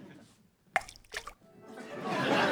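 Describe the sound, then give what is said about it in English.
A melting ice sculpture that replaced Boris Johnson dripping: a sharp watery plop, then a second softer one, followed by a steadily swelling hiss of running water with no voices. “That's right, it's the ice sculpture that replaced Boris Johnson. We can hear from it now.”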